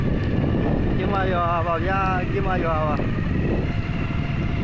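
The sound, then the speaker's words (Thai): A truck drives through the town of Kinma in central Myanmar, its loud, steady engine rumble and road noise filling the whole clip, with a wavering, voice-like tone briefly rising above it midway. “นั่นแม่นเสียงรถบรรทุกพาผ่านเมืองคินมา”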